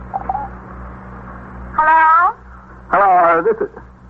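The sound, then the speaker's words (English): A telephone rings twice in loud bursts about a second apart, each lasting roughly half a second, over a steady low hum with no talking. “They're ringing.”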